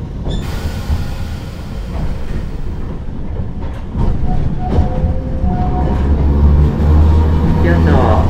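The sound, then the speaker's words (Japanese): An electric train's wheels clatter over railway switch points in a steady, loud rumble of irregular knocks, growing heavier midway with faint metallic whines, while a voice speaks faintly in the background. “この先ポイントを通過のため電車は揺れますのでお気をつけください。”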